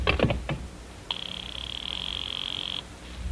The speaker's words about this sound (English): I'll just ring him on the house phone.